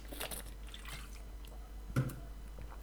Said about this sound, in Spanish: vengo haciendo un podcast largo, me voy a tomar un traguito de agua.